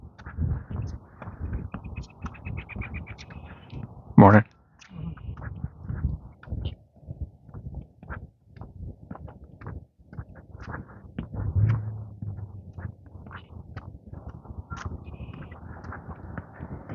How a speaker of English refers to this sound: I heard the red-winged blackbirds earlier. Honking up a storm.